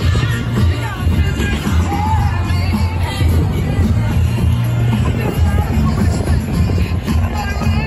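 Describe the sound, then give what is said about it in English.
A large crowd in Jersey supporting Trump at one of his appearances, reported at 100,000 people, fills the air with a steady roar of overlapping voices, cheers and shouts, with occasional bangs and whoops rising out of the dense, continuous babble. “Let's take a moment here and just look at the crowd. Roll that clip of the crowd real quick.”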